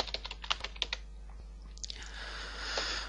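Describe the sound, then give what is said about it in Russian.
A quick burst of keyboard typing as a password is entered, about eight crisp key clicks in the first second, a couple more taps, then a steady soft hiss fills the rest. “Вводим пароль для доступа.”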